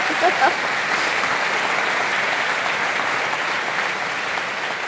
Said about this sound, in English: Let's give her a round of applause for getting through that lightning round.